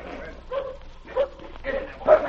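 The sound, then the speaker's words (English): A dog named Kane, the most savage dog in a team, lets out four short, high-pitched yelping barks at a fairly even pace, with a whining, whimpering edge between them. The barks are moderately loud against a low background hum. “That's the most savage dog in your team.”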